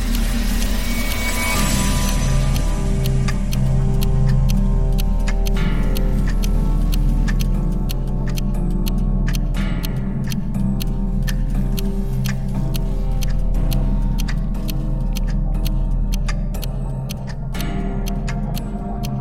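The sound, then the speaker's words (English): Dense, overlapping ticking from about a hundred clocks in a clock collection, including an old German wall clock, sharp clicks scattered irregularly over a steady low hum, with no voices. “But at the very center of it all, ticking away quietly amongst 100 other noisy clocks, is an old German wall clock.”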